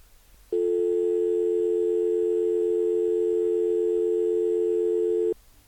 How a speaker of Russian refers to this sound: Звонишь на обычный, совершенно обычный израильский телефонный номер. И вместо там длинных гудков, коротких гудков, то, что обычно слышится после набора номера, слышен длинный гудок.